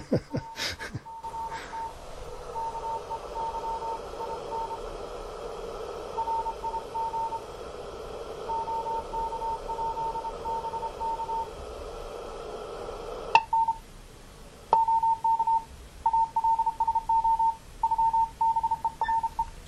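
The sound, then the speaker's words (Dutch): A shortwave receiver is left on all day and fed by a wire antenna hanging low above the street. It is tuned to a busy amateur band: steady static with faint Morse code beeping underneath, then louder, crisp keyed tones near the end. “De ontvanger staat hier werkelijk de hele dag aan. Alleen het is nu al echt gezellig druk, zo te horen.”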